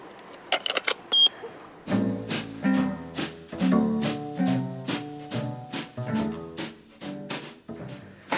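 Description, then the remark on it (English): A few quick clicks, then a door buzzer sounds as someone presses it: a loud, harsh electric buzz that pulses rapidly and steadily for several seconds, with no one talking. “Right, I'm going to buzz.”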